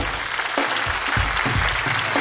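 audience applause

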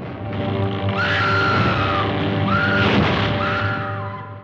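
woman's horror film scream

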